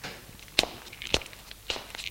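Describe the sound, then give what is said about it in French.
Three distinct footsteps of a man at a steady walking pace across a bedroom toward the wardrobe, each a soft thud with a brief scuff, in an otherwise quiet bedroom. “Tourne dans la chambre, éclaire et se dirige vers l'armoire.”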